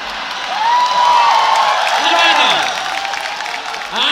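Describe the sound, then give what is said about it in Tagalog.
A noisy live audience claps and cheers continuously, a dense wash of applause with whoops and shouting voices rising over it, loud throughout. “Manonood pa kayo, gusto nyo tumanta rito. Ang inang ingay-ingay nyo eh.”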